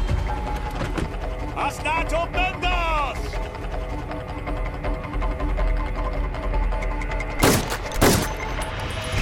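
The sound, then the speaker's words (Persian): Two loud, sharp gunshots, by which a man is shot, ring out close together near the end, over a constant low rumbling background with some brief voice-like sounds earlier. “به یه مرد شلیک شده.”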